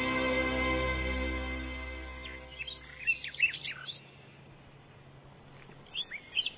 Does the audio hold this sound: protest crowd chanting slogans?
no